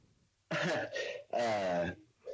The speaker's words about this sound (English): Oh, I thought I heard you crunching on chips. I think you might have been literally like trying to cough up something.